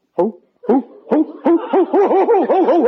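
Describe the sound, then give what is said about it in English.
A person imitates an owl, starting with a few spaced hoots, then breaking into a fast, steady run of warbling hoo-hoo calls, loud with no other sounds. “What are you hooting like an owl for?”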